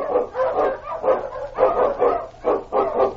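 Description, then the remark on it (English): Several huskies bark in quick, overlapping bursts, a steady run of loud woofs and yelps with only brief gaps between them. “On you, Huskies!”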